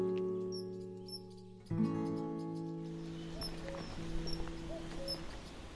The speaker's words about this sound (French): Vous entendez le sifflet, là ? C'est le sifflet du martin pêcheur. On l'entend avant de le voir, souvent, hein, parce que quand il s'envole, il émet un petit coup de sifflet comme ça, et puis il passe à toute allure.